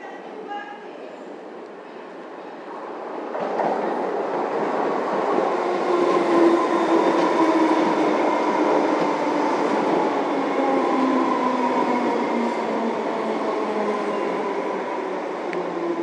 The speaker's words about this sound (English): anybody wishing to go on the Circle Line eastbound by Liverpool Street, this train, 2 minutes, 2 minutes.